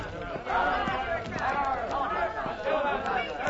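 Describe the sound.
A mob pursuing and taunting a woman shouts and jeers over one another in a dense, continuous clamor, loud, with rising and falling yells overlapping throughout.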